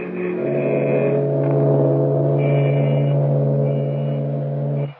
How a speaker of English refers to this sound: At the open drawbridge, a long line of irate motorists greet them with honking horns